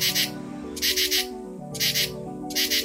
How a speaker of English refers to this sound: Insects are great at making noise, but the way they do it depends on their bodies. For instance, katydids rub their legs against their wings to create a chirping sound.